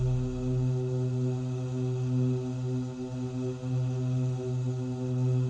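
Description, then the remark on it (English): A steady, sustained humming tone for the second chakra, pitched an octave higher than the first, with strong even harmonics, holds unbroken for several seconds, loud, with a slight low rumble only at the very start. “The second chakra is an octave higher.”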